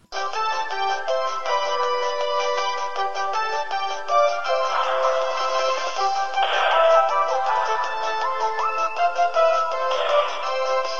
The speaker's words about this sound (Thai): มันเป็นรุ่งเช้าที่แสนสดใสมาแม่ตื่นนอนตรงเวลาแต่ยังไม่ทันลืมตาก็มีเสียงโทรศัพท์ดังขึ้น